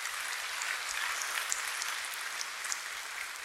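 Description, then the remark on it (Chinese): A large crowd claps steadily and densely, giving applause to God, a sustained wash of many hands applauding together at a fairly loud, even level with no talking over it. “我们给上帝一个最大的掌声。”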